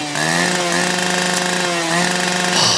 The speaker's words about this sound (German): Und da kannst du ja verschiedene Geräusche drauf. Also zum Beispiel ein Hund. Oder toll. Eine Kettensäge.